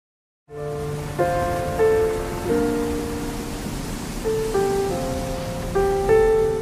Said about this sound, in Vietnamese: Thời tiết chán quá, mưa mãi không dứt.